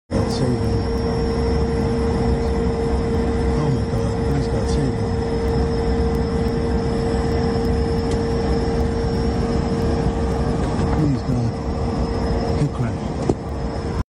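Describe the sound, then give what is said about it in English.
A small Cessna 310 propeller plane flying a left-hand circling holding pattern drones steadily and loudly for the whole stretch, its engine hum holding a constant pitch and level with no break. “Video shows Cessna flying in a holding pattern.”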